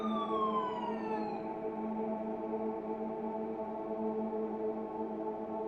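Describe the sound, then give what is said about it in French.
An ambulance siren wails loudly and without pause at night. Its pitch slides downward at first, then settles into a steady, sustained tone. No voices are heard. “Plus tôt dans la nuit, la mort proche a parlé en train d'écouter les sirènes de l'ambulance percer la nuit.”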